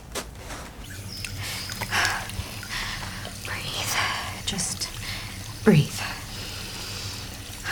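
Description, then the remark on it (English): A bathroom tap runs steadily, a continuous hiss of flowing water with faint whispering underneath and a brief louder splash near the end. “I shut the water off and I turn around to grab a towel.”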